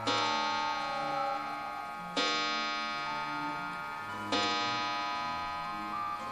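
An English clock at a home's entrance chimes with three evenly spaced, resonant strikes about two seconds apart, each bell-like tone ringing on and slowly fading into the next, clear, with no one speaking.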